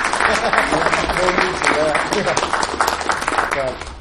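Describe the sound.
Sustained audience applause, a dense, steady patter of many hands clapping at once for several seconds, with a few voices faintly audible beneath it.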